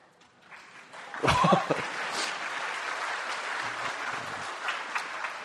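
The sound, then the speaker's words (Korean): Applause from a church audience, celebrating an overall win at the Daegu Sunday school association Bible contest, swells after about a second and holds steady as a dense, continuous patter of clapping, with a brief murmur of voices at the start. “예, 박수 칠 일이죠.”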